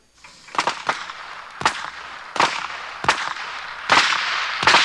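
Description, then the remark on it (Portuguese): A rapid, irregular series of about seven sharp gunshots fired into the air cracks out, loud, each bang ringing briefly over a steady background hiss, with no voices. “Matty Joe se disfarça de Silvio Santos e eles disparam tiros para o ar, fazendo de conta que a diligência do baú da felicidade está na cidade.”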